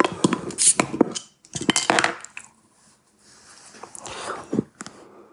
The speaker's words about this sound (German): Dann könnte ich auch mal die Flasche aufmachen.